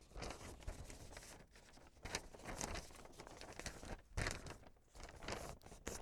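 A sheet of paper is handled and folded, producing continuous crisp rustling with sharper crinkly bursts and creases over a few seconds, with no voices.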